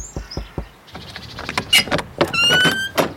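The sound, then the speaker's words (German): Three sharp, evenly spaced knocks on the door of a house with no doorbell on the edge of Glitzer City, then a long creaking, squeaking groan as the door swings open. No one speaks. “Wenn ich mir einen Vorschlag erlauben darf, Sir Richie, man könnte auch klopfen.”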